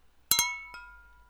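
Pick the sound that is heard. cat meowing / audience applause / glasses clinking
glasses clinking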